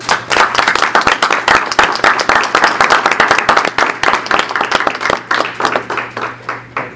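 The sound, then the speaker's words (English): Many people applaud, a dense steady patter of many hands clapping at once that thins out and softens over the last couple of seconds. “I'd like to give them a round of applause.”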